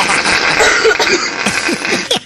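Several people cough in quick, overlapping bursts, harsh and throaty, fairly loud against a busy background hiss.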